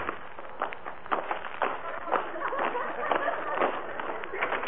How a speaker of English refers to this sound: It is made of very thin rubber and filled with small pebbles. When shaken and held up to the microphone, it produces a loud explosive sound. Let me show you.